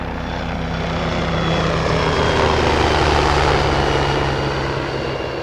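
A helicopter performing a display at an air show drones steadily overhead, its engine and rotor producing a loud, continuous roar with a low humming tone, swelling slightly at the midpoint. No voices are heard.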